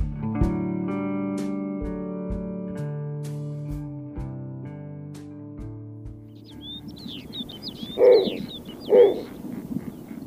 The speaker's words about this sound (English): The snowy owl is usually found on the Arctic tundra of Canada, Greenland, and Russia. But this white-feathered bird, standing about 2 feet tall, has been spotted here in eastern North Carolina.